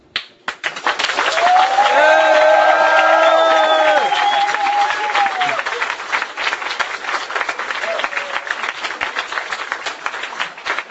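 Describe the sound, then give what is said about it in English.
An audience claps loudly and steadily for about ten seconds, as a vote for a contest entrant. Several high, sustained whoops and cheers rise over the applause early on before the clapping slowly thins out. “I shall listen to the sounds of applause.”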